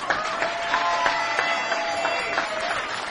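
Steady applause from a live jazz concert audience for a performer, dense clapping with a few sharper claps and faint crowd murmur, sustained throughout at moderate loudness.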